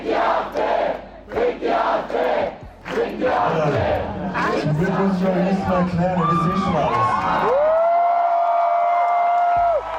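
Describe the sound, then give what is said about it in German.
A large concert audience roars, cheers and whoops loudly for several seconds, with rhythmic bursts of collective shouting early on and sustained high-pitched yells and whistles near the end. “Und als er aus der Zeitung vorliest, dass, Zitat, viel zu viele Arschlöcher Rechtsextreme wählen, zeigt das Publikum, auf wessen Seite es steht.”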